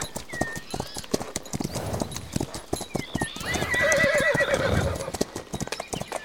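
horses clip-clopping and neighing

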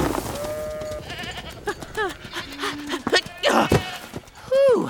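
goats bleating

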